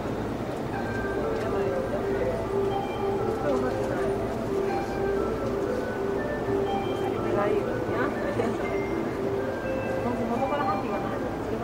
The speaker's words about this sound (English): Going into Yoyogi, which is one stop away from our final destination, which is where we started off at. And there are actually people talking on this train. It doesn't happen often, but it's happening now. I don't know what they're saying.